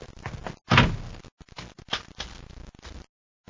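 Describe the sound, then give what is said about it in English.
A heavy door with no window slams shut with one loud, booming thud, followed by a couple of seconds of rattling, clunking knocks before it falls quiet. “Shut the door, Ruben.”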